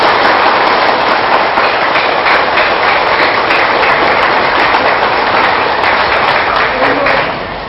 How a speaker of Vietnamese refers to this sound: thì xin quý vị hãy dành cho một tràng vỗ tay thật lớn để cam kết.